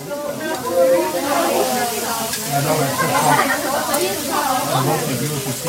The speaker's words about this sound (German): Wie man hört, ist in der Zwischenzeit der Grill für unser Feuerfleisch aufgedreht worden, zusammen mit ganz vielen Beilagen.